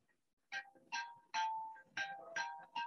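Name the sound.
cell phone ringing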